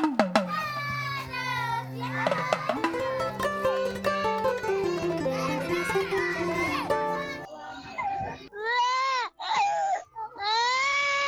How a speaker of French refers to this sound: Les pleurs de l'enfant ne sont pas fortuits. Ils sont un moyen de communication et d'expression pour eux. D'ailleurs, généralement, un enfant dès sa naissance commence à pleurer.